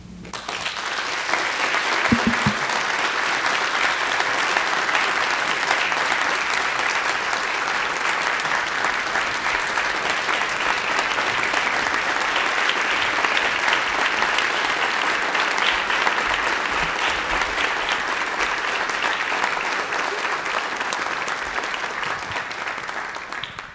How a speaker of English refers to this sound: We give her another round of applause. That was an amazing speech.